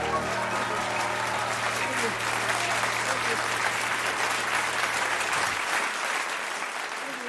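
Loud, sustained applause from a large audience fills the hall, a dense wash of clapping with a low sustained tone underneath for most of it, then fading slightly toward the end.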